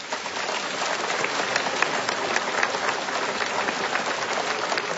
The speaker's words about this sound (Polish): Kochani, a my także w imieniu całej naszej wesołej, różańcowej rodzinki dziękujemy wszystkim ojcom i braciom redemptorystom, gospodarzom tego tuchowskiego sanktuarium. Gorące brawa dla nich!